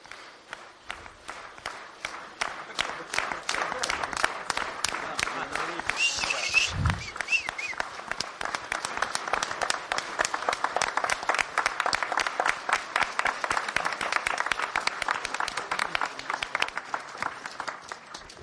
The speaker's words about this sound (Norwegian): Спасибо, спасибо большое всем нашим странам. Поаплодируем. Tusen takk, kjære venner, for alle våre land. La oss klappe våre hender for alle disse store venner.